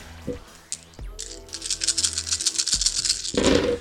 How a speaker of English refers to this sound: All the dice in the world.